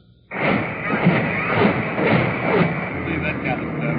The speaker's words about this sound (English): As the Missouri pounded away at the hills above the beach, other big guns of the UN armada joined the barrage.